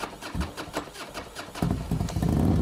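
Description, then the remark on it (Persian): A Paykan car engine cranks and catches, its rough mid-pitched rhythm pulsing steadily, then revving up louder and settling into a heavier, continuous running growl. “این چهارچرخ بی‌ادعا زبان گویای طبقه‌ای بود که هویتش با صدای موتورش ضرباهنگ می‌گرفت.”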